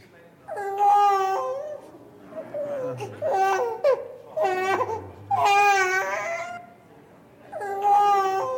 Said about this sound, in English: Okay, anyone tell me what that noise is? Yeah, that's a child crying, and that's quite an obvious link to the Christmas story, isn't it?